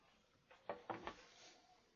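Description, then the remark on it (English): A door being shut, heard as a short cluster of three quick wooden clunks and latch clicks, fairly quiet against a soft background hiss. “I'll shut the door here, and if you need help, then just give us a holler.”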